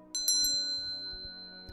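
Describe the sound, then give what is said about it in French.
A small Tibetan bell is struck three times in quick succession, then its clear, bright tone lingers and rings on steadily, with one softer tap near the end. No voices. “Sens ton corps s'enfoncer doucement, en sécurité, bercé par cette cloche”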